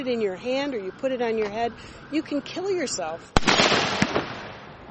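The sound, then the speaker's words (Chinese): A person talks for a few seconds, then a loud, sharp blast from powerful consumer fireworks goes off, followed by a hissing, crackling burst with another pop near the end. “When you buy and use illegal consumer firework, 当你购买合法烟花产品时要十分小心，因为威力很强。”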